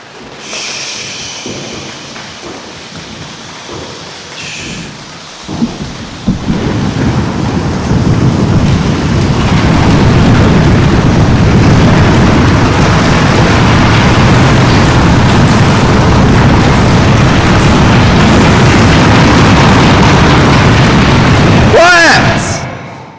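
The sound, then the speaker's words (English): A crowd drums and pounds on tables to mimic a thunderstorm, building from scattered tapping into a loud, sustained roar of rumbling and rattling that stops abruptly near the end. “Some people need to go around the tables because that's what's going to give us the real volume. All right, go, storm.”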